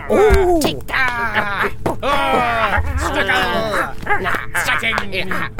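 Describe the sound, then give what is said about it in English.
A physical struggle carried by strained voices: overlapping grunts, groans and wailing cries rising and falling continuously and loudly, with short bursts of effort and scuffling underneath. “We hear sounds of a struggle.”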